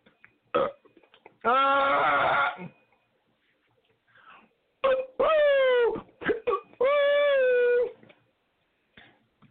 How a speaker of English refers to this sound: I got the hiccups.